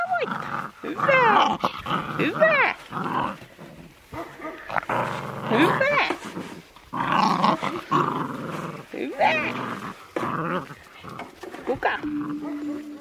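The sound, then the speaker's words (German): Sixteen husky puppies scurry around a woman's legs, growling, yipping and whining in a busy, overlapping chorus. High-pitched yaps and rumbling growls fill the whole stretch, with a brief steady tone near the end. “Reija zeigt Pia ihre Hunde. 16 Husky-Welpen wuseln um ihre Beine.”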